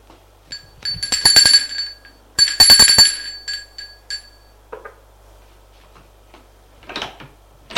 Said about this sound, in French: Et Frédéric va sonner à la porte de gauche.